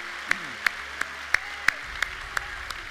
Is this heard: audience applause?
yes